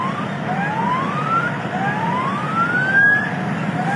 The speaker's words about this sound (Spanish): Esto que usted escucha, es una patrulla de la Policía Estatal. Se me hace que son algunos jefes, porque era de la Policía Estatal Vial, porque es la 002, la que va abriendo camino a todos los trailers,